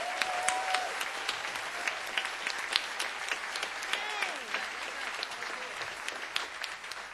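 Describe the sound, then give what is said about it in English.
Sustained audience applause at a live music show in a New England venue, a dense steady patter of many hands clapping with scattered whoops and cheers rising above it, holding at an even level throughout. “Okay, huge round of applause”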